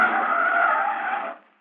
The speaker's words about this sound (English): Hey, Bubble, look out. Here comes a car.